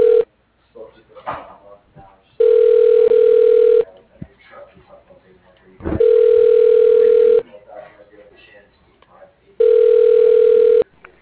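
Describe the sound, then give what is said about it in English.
A telephone call ringing: three long, steady ring tones at a constant mid pitch, each about a second and a half, separated by pauses filled with faint background talk and noise. “I'm on a phone call.”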